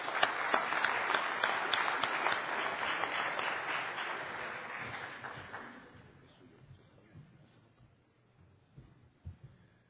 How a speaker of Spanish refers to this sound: O sea que vamos a darle un buen aplauso canadiense